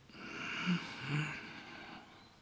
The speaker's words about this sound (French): Et la respiration par le nez se fait en automatique. Et on regonfle le ventre.